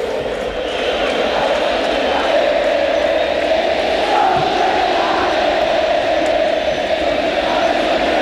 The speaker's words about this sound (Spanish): Y aquí canta el estadio de esta manera, cuando estamos en la previa, ya estamos a... cerca de 40 minutos del comienzo del partido. Son de la B, canta la hincha de Colo-Colo. Escuchamos.